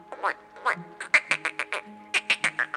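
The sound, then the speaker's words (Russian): Frogs croaking in a quick series of about a dozen short, raspy, nasal calls, loud and evenly spaced, with a brief pause midway before the rhythm resumes. “Нет, это лягушки, сказала опять девочка.”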